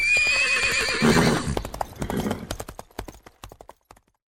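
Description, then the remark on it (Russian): A horse lets out a loud, quavering whinny, then its hooves clip-clop in a quick, steady rhythm that slows and fades over a few seconds. “Была лошадка белою, а стала в пятнах бегаю.”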